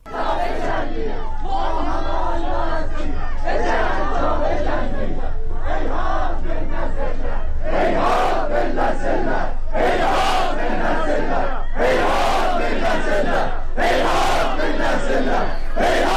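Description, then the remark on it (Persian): A large crowd of mourners at the funeral of Aylar Haghi, a young woman who was killed, at Vadi Rahmat cemetery in Tabriz, Iran, held under heavy security, chants loudly together in rhythmic, repeated phrases. The voices swell into sharper, forceful shouts at regular intervals in the second half. “در تبریز عده زیادی از مردم در مراسم خاکسپاری آیلار حقی، دختر جوانی که پریروز کشته شد، در آرامستان وادی رحمت برگزار شد.”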